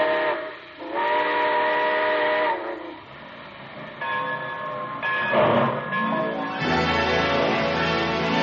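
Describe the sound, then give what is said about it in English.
A steam train whistle blows several long, loud, chord-like blasts with short gaps between them as the train pulls out, over a constant hiss of escaping steam. “So, folks, be sure to join us again next Monday and ride with us aboard the Summer Show Train back to the years from 1915 to 1920. Aboard. Well, it looks as though we're ready to pull out.”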